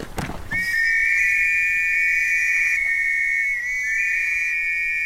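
A pea whistle blows one long, shrill, high-pitched blast that holds steady for several seconds with a slight warble, preceded by a brief knock, with no talking.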